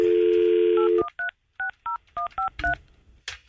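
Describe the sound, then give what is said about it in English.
A steady dial tone cuts off, followed by a quick series of about nine cell phone keypad beeps as a call is dialed, each a short dual-pitched tone in an uneven rhythm, clear. “Let me call Julian on the cell phone here.”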